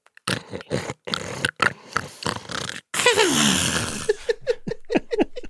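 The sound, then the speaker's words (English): A voice imitates the character Lita snoring while sleeping in a trash heap with welding goggles pulled down like a sleep mask: a quick run of loud, rasping snorts, then a long wheezing exhale that slides downward, and a string of shorter snuffles at the end. “Sleeping in a trash heap, with her welding goggles pulled down like a sleep mask, Lita is snoring.”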